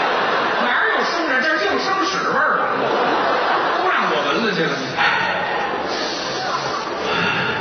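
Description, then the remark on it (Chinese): A voice makes loud, exaggerated sniffs and heavy snorting inhales, a series of breathy bursts running continuously for several seconds, sniffing the air to smell for the scent of strangers. “闻怎么没味 儿？都让我吸进去了， 很安全。”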